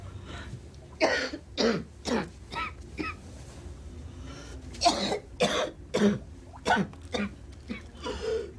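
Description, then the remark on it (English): A persistent spluttering cough from a woman walking through her apartment, trying to stop it with a cigarette: a rapid string of harsh, wet coughing bursts in two fits separated by a brief pause, with raspy throat-clearing between them. “attempts to curtail a stubborn, persistent cough with a cigarette.”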